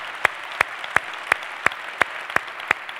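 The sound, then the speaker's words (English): A church audience claps in steady unison, about eight sharp, evenly spaced beats over a soft, hissy crowd background, with no voices, applauding the Nagpur campus and those watching at the Kent County Juvenile Detention Facility. “We clap because we just want them to know that they're loved, and when they get out, they have a church family in the life of KCC should they want to make it their church home.”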